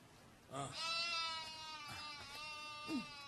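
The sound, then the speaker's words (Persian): A sheep bleats in a long, wavering, nasal cry that trails on for a couple of seconds, followed by a few shorter bleats, with no voices around it, as an old woman milks it in the desert. “پیرزن گوسفندی را می دوشد.”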